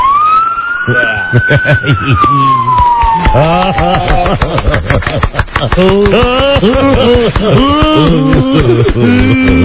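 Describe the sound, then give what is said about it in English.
A police car siren, picked up by a phone held out of a window, wails through a tinny phone line, its falling tone clear at first before several excited voices talk and shout over it, leaving the siren faint underneath. “Can we have the siren?”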